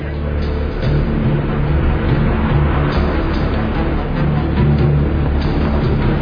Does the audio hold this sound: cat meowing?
no